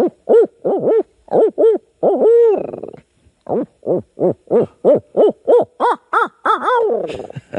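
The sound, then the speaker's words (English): A loud series of rapid owl hoots, about twenty rhythmic notes with a drawn-out wavering hoot midway and a descending trailing call at the end, voiced by a person imitating an owl. “He asked me why I don't owl hoot when we go.”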